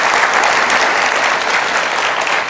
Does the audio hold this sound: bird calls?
no